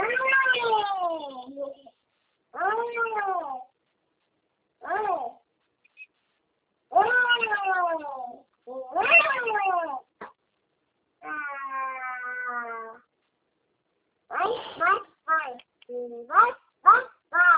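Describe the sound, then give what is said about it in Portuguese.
A baby cries and fusses in a series of drawn-out wailing bursts separated by short pauses, ending in several quick, choppy whimpers, fairly loud. “É que eu tô com meu bebê aqui”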